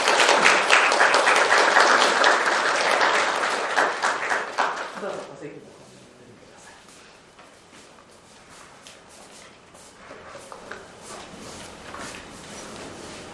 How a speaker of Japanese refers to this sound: 拍手を持って歓迎します。